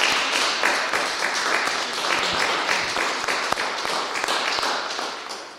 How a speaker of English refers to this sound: We welcome you. I think we're allowed to clap. Still.